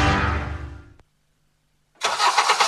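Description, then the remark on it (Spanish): A car engine rumbles loudly and dies away, then after a brief pause a rough, roaring engine starts and revs strongly. No one speaks. “En Karen, seguimos con motores encendidos.”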